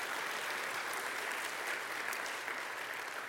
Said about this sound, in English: You may not know them, but I want you to clap for them. We're glad they're here.